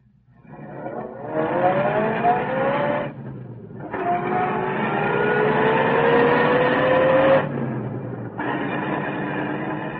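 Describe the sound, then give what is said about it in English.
Captain Mercer's car engine revs up and accelerates in three rising bursts with brief pauses between gear changes as it starts out toward the Sentinel, the motor loud with a steady low rumble underneath. “Anyway, pretty soon, Captain Mercer came down and we got into his car.”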